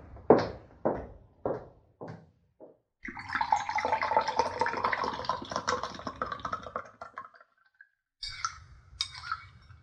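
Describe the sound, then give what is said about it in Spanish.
A handful of sharp knocks, then water pours steadily for about five seconds while pineapple water is being prepared, before a couple of brief clinks and clatters. No one speaks. “Ay, ahora mientras llegan con las tortillas dos muchachos, voy a preparar el agua de piña.”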